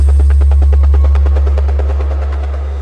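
Helicopter rotor thumping in a rapid, steady rhythm over a heavy low engine drone, loud and close, with no voices.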